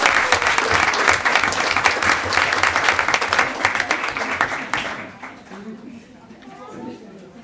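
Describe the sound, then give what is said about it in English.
A crowd applauds loudly with dense, steady clapping for about five seconds, then the applause quickly fades away, leaving faint murmurs. “Give Tilly Marks a round of applause.”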